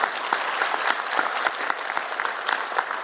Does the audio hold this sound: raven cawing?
no